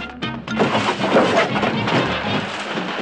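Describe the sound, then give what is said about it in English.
A car engine rumbling in, a loud, steady roar with low droning tones and a rattly, noisy edge that swells in abruptly and holds for a few seconds. “I think I heard a car.”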